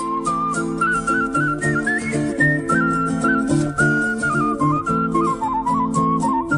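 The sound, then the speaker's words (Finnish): A clear, high whistled melody carries a bouncy TV theme tune, sustained and steady for several seconds over a dense instrumental backing, with no talking. “Eli jos meinaat viheltää julkisilla, niin tähän tyyliin.”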